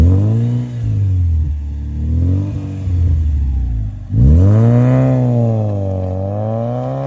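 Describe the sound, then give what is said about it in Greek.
A coupe's five-cylinder two-litre engine of about 225 to 250 horsepower, called the poor man's Ferrari, revs loudly, its tone rising and falling in a few throttle blips, a brief dip, then a longer surging rev that settles into a steady drone. “Και ο πεντακύλινδρος δίλητρος, νομίζω με 250 ύπους, που λέγανε Φεράρι του φτωχού.”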